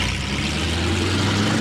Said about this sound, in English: Fires up the engine that he had installed on the back of that bad boy.